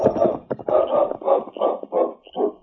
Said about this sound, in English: For a few minutes, the great dog King sniffed and whined at his master's side